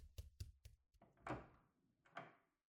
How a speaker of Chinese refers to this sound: 我去开门，老师帮我把课本拿出来吧，别被妈妈发现了。